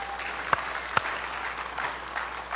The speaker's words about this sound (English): is Pentecost Sunday, and it is a day, yes, you can clap at that, that's okay.